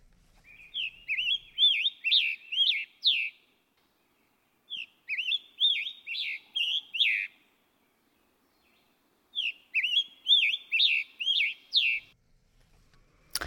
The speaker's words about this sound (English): I think that's the scarlet tanager, isn't it? That's right, yep. Yeah, there will be a lot of scarlet tanagers coming through Ohio in the next... There have been for the last few weeks, and there will be for the next few weeks.